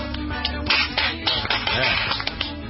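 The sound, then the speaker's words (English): Several people on the set of the TV show Good Day clap their hands in loose, uneven bursts, the sharp claps rising over a steady background hum and clatter. “Everybody clap.”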